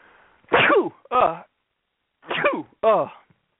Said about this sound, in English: Classic sneeze.